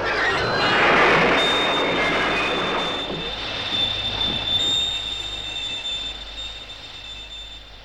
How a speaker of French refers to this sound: Capitaine! Un rapide qui arrive derrière le nôtre. Il l'a pas vu.